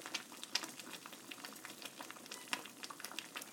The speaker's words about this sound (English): That is a pan on the stove, which I'm guessing most people would know.